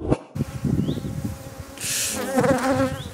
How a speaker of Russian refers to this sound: И как-то я помню, что было не очень страшно. Меня не сильно кусали. Это другая порода пчел, наверное.